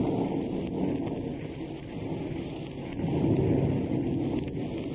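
Heavy rain pours steadily in a dense hiss while deep, rolling thunder rumbles underneath, swelling louder partway through, on a rainy night of thunder and lightning at Dorothy Lamour's house in Malibu. No voices are heard.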